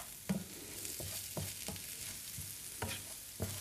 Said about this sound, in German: So. Und alles schön umrühren. Jetzt tun wir das noch so ein bisschen anbraten mit dem Reis. Und da die Geschmäcker mal schön reinkommen.